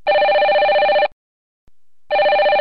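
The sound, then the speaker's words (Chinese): An iPhone rings loudly, two bright, warbling electronic bursts about a second long, separated by a short silence, with no voices. “放手，我的 iPhone 快放手，我的手机它在响，我要上超时间到。”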